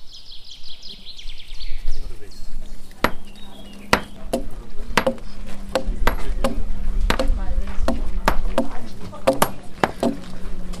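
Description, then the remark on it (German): Sharp hammer blows ring out one after another at an uneven, steady pace at a construction site where builders in historical garments work with historical methods, loud and percussive, over a low background drone, with birds chirping briefly at the start. “Es wird gehämmert, gesägt und nun ja, eben gebaut.”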